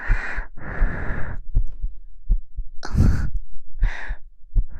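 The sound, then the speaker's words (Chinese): A woman's steady heartbeat, felt with a hand on her chest, thumps low and soft at a regular pace, mixed with several breathy sighs and exhalations that come and go over it. No one speaks. “有没有摸到姐姐的心跳呀？”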